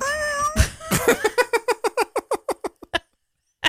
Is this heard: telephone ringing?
no